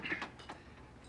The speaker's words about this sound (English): The door closes.